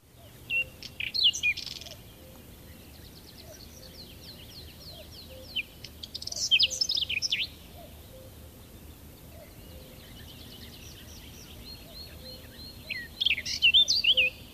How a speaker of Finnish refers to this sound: Tämän viikon luontoäänenä kuullaan pensastaskua.